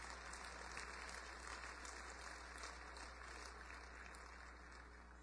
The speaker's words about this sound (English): You're applauding sweat and tears. You're applauding brothers and sisters who didn't live long enough to see it.